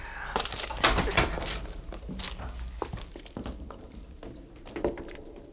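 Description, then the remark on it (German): A door to a cellar room being opened, with a busy run of sharp clicks, knocks and rattling handling noises over several seconds, moderately loud against a quiet background. “Meinst du, wir können einen Blick riskieren? Mach schon auf,”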